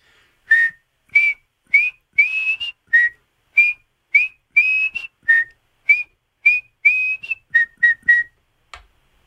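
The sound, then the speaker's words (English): A person whistles the Rangers fans' whistle, a quick, loud melodic tune of about eighteen sharp rising and falling notes in a steady rhythm, with no talking. “…, let me hear the whistle.”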